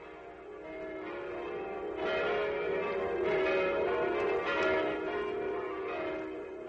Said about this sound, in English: These are the bells of Bethlehem. These bells ring out across a troubled border.